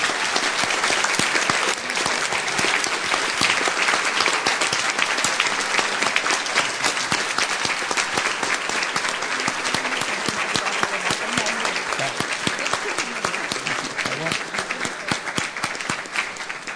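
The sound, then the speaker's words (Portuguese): An audience in a church service applauds the Lord Jesus, dense clapping from many hands filling the space at a consistent, fairly loud level for the full stretch, with no speech standing out over it. “Vamos aplaudir o nosso Senhor Jesus.”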